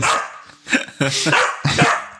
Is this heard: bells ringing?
no